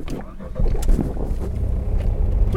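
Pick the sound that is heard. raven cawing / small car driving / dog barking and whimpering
small car driving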